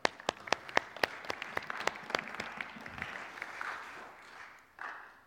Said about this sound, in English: Let us welcome John with a big clap.